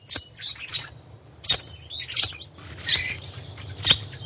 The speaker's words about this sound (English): Its song might sound pretty enough, but straight from the mouth of Australia's red-rumped parrot comes a dire warning to all the inhabitants of this planet, humans included.